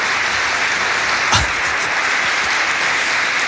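Sustained applause from a crowd of colleagues at the public prosecutor's office, an ovation for Álvaro García Ortiz at the end of the first session of his trial, a dense steady patter of many hands clapping, with no voices standing out and one brief louder thump partway through.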